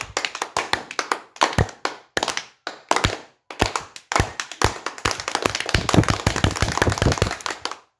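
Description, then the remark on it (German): Students doing martial arts exercises perform "storm clapping": hands clap in sharp, distinct slaps, spaced slowly at first and then speeding up into a dense, continuous burst of applause-like clapping from several people. “Sturmklatschen. Klatscht in die Hände. Erst langsam, dann immer schneller.”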